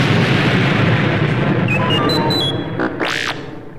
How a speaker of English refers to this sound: Fire! The concussion missiles shot up. Direct hit! The Death Star rocked with a chain of explosions. The Millennium Falcon raced away, just inches ahead of the terrible explosion.